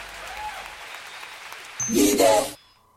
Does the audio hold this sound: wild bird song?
no